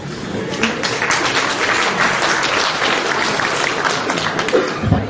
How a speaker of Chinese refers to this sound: 谢谢大伙的掌声鼓励， 感谢大家